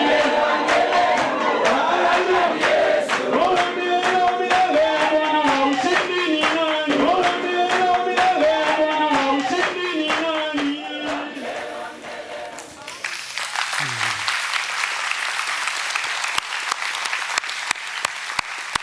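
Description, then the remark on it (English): An audience in Knoxville applauds the Lord loudly, sharp claps mixed with a crowd of voices cheering and calling out, then settling into a steady, dense wash of clapping that carries on to the end. “Lord, we're applauding you for what you're doing, Lord.”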